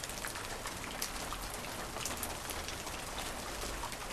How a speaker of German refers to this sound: Draußen regnete es. Die Tropfen prasselten auf das Dach.